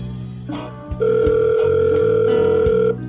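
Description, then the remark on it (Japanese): A telephone receiver clunks down with a couple of sharp clicks, then a steady, mid-pitched dial tone hums for about two seconds before a final click cuts it off. “また電話します。ガチャ。”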